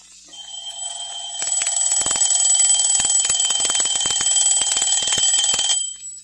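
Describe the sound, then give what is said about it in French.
A loud alarm clock rings continuously for several seconds at 7 in the morning, a shrill metallic bell clatter with rapid hammering strikes, then stops abruptly. “C'est pas déjà le matin. 7 heures. Oh non, l'horloge avance.”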